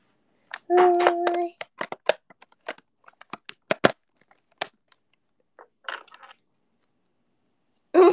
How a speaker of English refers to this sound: I dropped the scissors, okay?